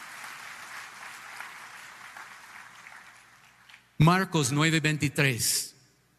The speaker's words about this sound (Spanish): Vamos a dar un aplauso en la casa del Señor por su palabra, por sus ánimos, Señor. Gracias, Señor.